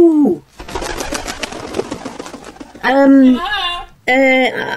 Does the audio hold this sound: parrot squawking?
yes